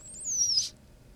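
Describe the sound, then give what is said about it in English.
A single thin, high-pitched squeak from a caged lizard, recorded with the microphone about 3 inches from its head as it opens its mouth: a brief airy whistle sliding slightly downward in pitch and lasting about half a second, followed by faint low background rumble. “He expelled that was some squeak. Air there. That was it. That was the squeak.”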